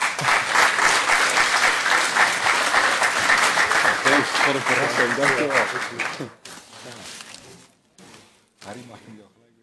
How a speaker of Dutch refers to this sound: En geheel in strijd met het reglement van orde geeft u nu een klein applaus.